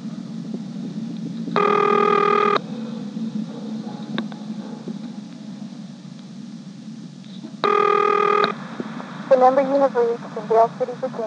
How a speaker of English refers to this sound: I'm now dialing a vacant code, 311.